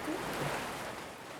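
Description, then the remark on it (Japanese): A continuous rush of ocean surf, waves washing in and pulling back again, a broad hissing wash of water that swells slightly and then eases, steady, with no voices. “波は山に寄せては、引いたらまた寄せて。この音を聞くだけで、あなたはまたどんどん気持ちよくなっていく。”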